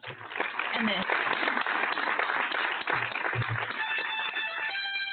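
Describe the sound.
Steady applause with many overlapping claps runs the whole time at an even, fairly loud level, with voices mixed in underneath and a brief tonal sound near the end.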